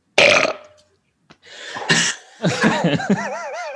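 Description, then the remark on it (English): A loud, rasping burp bursts out, then after a short pause comes a longer, croaking belch that wobbles in pitch before trailing off, played as a quiz buzzer. “Can we get a play of your buzzer”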